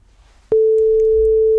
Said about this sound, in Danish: Altså, jeg giver ham lige et kald. Fornuftigt. Så ringer han sgu.